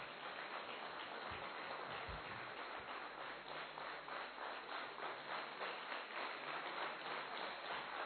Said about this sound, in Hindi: तो मैं आशा करती हूँ कि एक बार सारे ही कलाकार स्टेज पर आएं और आप सब अपनी खुशियों का इजहार खड़े होकर ताली बजाकर करें।